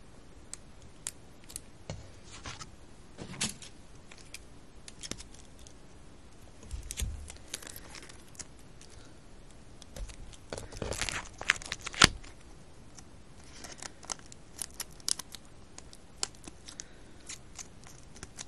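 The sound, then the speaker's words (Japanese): Adhesive tape being pulled, torn off and pressed down around the edges to finish a craft project, with scattered sharp clicks and crinkles and a louder ripping burst partway through; fairly quiet, no talking. “最後に周りをテープで留めます。”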